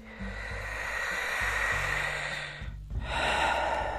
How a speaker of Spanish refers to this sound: Toma una nueva respiración lenta y larga.